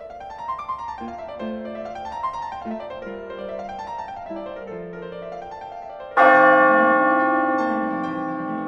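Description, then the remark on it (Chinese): Church bells peal in repeating cascading rounds, then one loud, deep bell strike booms out and hangs in the air, slowly fading, on a clear, bright, cold, sunny day. No voices. “陷入狂喜之中的石谷鸡忽然静了下来，聆听教堂敲出的巨大钟声”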